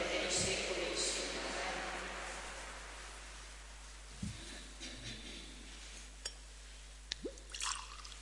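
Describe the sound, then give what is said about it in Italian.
Water trickles into wine in a chalice during Mass, a soft hissing pour followed by a few distinct drips, small and soft against a hushed quiet. “L'acqua unita al vino sia il segno dell'unione con la vita divina di colui che ha voluto assumere la nostra natura umana.”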